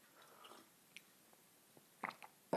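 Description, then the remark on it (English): A quiet sip of orange bourbon coffee: faint lip and mouth noises, then two short, wet slurping clicks near the end, with no talking. “Taking a sip of the orange bourbon.”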